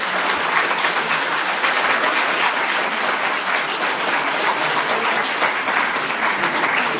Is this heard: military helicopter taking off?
no